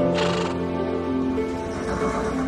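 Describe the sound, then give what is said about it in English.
A horse lets out a single long, loud whinny in a stable, looking over a stall door. It opens with a breathy, rasping burst and then holds a steady, quavering tone. No one speaks. “She steps inside and finds a horse looking over a stall door.”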